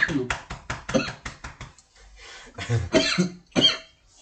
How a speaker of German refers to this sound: Raucher husten. Getränk in die falsche Röhre, Alter. Ja, scheiße, wenn die Flüssigkeit in die falsche Röhre kommt.